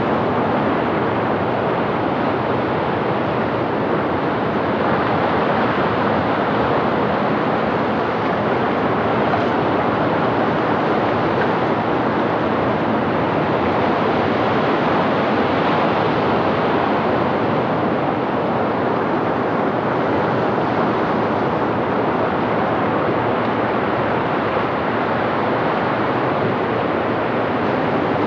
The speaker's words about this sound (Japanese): 砂浜の向こうから聞こえてくる壮大な波のベースラインをバックに、波消しブロックの間からは小さなメロディーがいくつも聞こえてきます。名取市閖上でした。